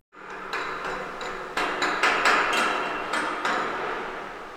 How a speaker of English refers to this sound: It's a cold, snowy day down by Sitka's marine haulout. Inside the giant, unheated commercial workspace, I can still see my breath as men weld and work on boat parts around me.